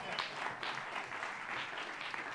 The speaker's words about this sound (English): How about a big round of applause for our band